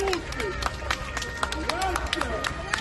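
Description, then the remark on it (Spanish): Crowd in Italy applauding outdoors, with scattered claps and cheering for the carabinieri who took part in the arrest of Cosa Nostra boss Matteo Messina. Steady and fairly loud, with excited voices and shouts of 'bravi' rising over the clapping. “Bueno, esto que escuchas son los aplausos de la gente a los carabinieri que han participado en su detención.”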